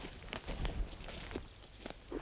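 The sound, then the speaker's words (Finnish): Footsteps of a person walking along a path between small bushes in a power-line clearing where the forest was cut down, soft, uneven crunching steps at a steady walking pace over a low, constant background hiss, with the power line humming above and no voices. “Hän kävelee polkua, joka kulkee pienten pensaiden välissä.”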